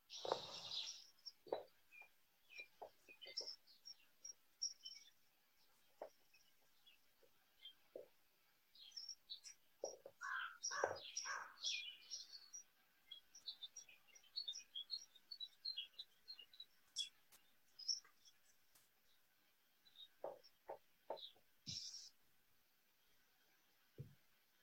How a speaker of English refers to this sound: Could you hear all the birds? ¿Pueden escuchar esos aves? Yes, we have many birds in Saskatchewan. Tenemos muchas aves en Saskatchewan.